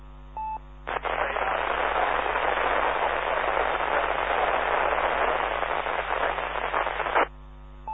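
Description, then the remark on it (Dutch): A burst of hissing radio static fills about six seconds, opening and cutting off abruptly, with a faint, unintelligible check-in transmission on an amateur radio round barely discernible beneath the noise. “Ja, dat was voor mij in de ruis. Dat kon ik niet meekrijgen.”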